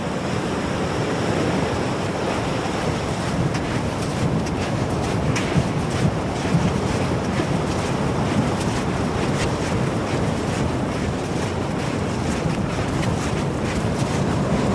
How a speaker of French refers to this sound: Ah, la mer, elle monte, là, oui. Et les vagues hein? Les vagues, pour le moment, non. Elles doivent monter que cette nuit. Là, elles sont assez stables. On est sur des hauteurs a priori de 2,60 m là au large.